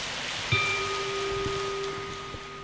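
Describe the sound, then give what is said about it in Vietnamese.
A crowd at a Buddhist gathering claps steadily for a few seconds to welcome a monk's talk, a dense, even patter of many hands with no voices, while a faint steady hum sounds underneath. “Xin quý vị dành tràng pháo tay”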